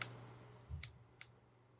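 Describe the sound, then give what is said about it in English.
A few small, sharp plastic clicks of a light's button, quiet, spaced irregularly over a low steady hum with no talking; the button switches the light's colour and modes, including flashlight and emergency light. “I was, you know, I was clicking and saying it's not doing anything.”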